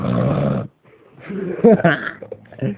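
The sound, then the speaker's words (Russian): A man snores loudly: one long, harsh rasping snore, a brief pause, then rougher snorts and throaty rumbles that trail off. “Ебать, она храпун отдает мне.”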